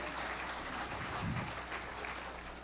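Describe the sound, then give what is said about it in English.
An audience gives a clap offering during a morning church sermon, a dense, steady wash of many hands clapping at once, holding an even level for the whole stretch with no voices standing out. “Give him another good clap offering this morning.”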